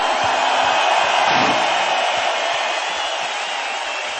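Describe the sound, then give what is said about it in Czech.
An audience applauds steadily for about four seconds for a group of girls who have just played, a dense, even wash of clapping that stays fairly loud throughout with no voices standing out. “Krásně jste hráli, holky, potlesk!”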